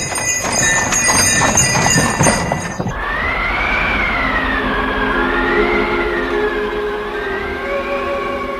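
Horses clatter with busy, overlapping hoofbeats for a few seconds, then the hooves cut off and a loud wavering siren-like wail rises and falls until the end. No one speaks.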